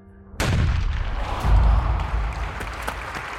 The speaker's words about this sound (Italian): i nomi riecheggiano nello stadio accompagnati da applausi sempre più forti